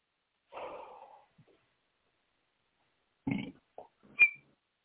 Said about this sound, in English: Are you burping? I heard you whistling and burping.